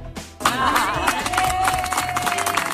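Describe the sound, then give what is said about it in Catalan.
A crowd of neighbours in Breda applauds steadily and loudly after a court provisionally suspended the eviction of a 77-year-old neighbour from her home, many hands clapping at once in a dense, continuous patter, with some voices and whistle-like cheers rising over the clapping. “Escolteu aquests aplaudiments.”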